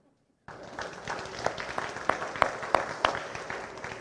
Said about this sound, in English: You know what? I think you should clap for yourself.